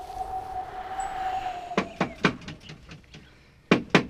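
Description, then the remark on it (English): A steady low hum fades as knuckles rap on a neighbour's door: three sharp knocks, a few softer taps, then two more firm knocks after a short pause. No one speaks. “So I knocked on a neighbor's door.”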